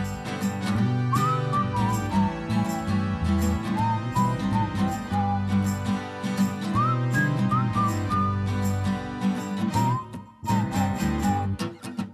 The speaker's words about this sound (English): Bird of paradise is singing out his song.